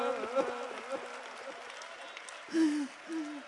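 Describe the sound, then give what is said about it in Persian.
A crowd claps in a dense, continuous patter throughout at a Muharram mourning gathering, applauding the story of Qasim's fighting, while a man's strained, raised voice speaks in short bursts over the applause. “صدای کف زدنتون مثل نقل پاچیدن و سنگ پاچیدن.”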